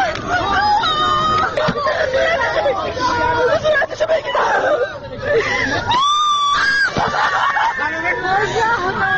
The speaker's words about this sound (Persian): دختری جوان از میان جمعیتی که به کمک شتافته است راه باز میکند و دستهای لرزانش را بالا میبرد و فریاد میزند: بگذارید صورتش را ببینم. او از صورت زنی که توسط خودرویی زیر گرفته شده فیلم برداری میکند و همزمان پشت دوربین زجه میزند.